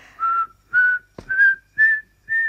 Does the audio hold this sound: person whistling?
yes